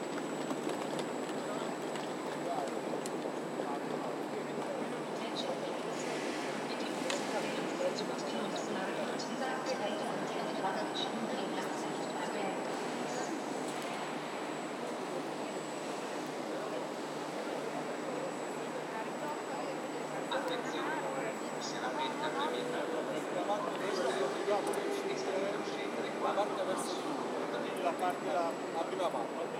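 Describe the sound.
Busy train station ambience: a steady wash of crowd murmur and indistinct voices, with scattered footsteps and clatter, continuous and fairly even in loudness throughout.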